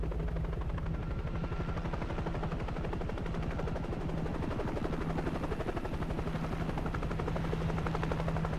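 vehicle, helicopter rotor noise

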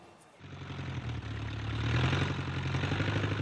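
vehicle, aircraft engine

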